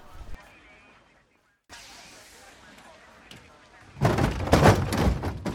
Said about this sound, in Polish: No musisz, pewnie już stoi przy drzwiach i puka do waszego studia.